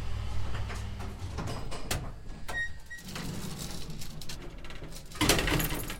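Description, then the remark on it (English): Elevator doors slide open on the second floor with a mechanical rumble and a brief whine, followed by a clunk and a louder rush of movement near the end, with no talking. “We take the elevator up to the second floor.”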